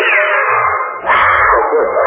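A tiger and its mate roar as they leap, a loud, rough, continuous snarl lasting about two seconds, swelling briefly in the middle with a deep rumbling undertone. No one speaks.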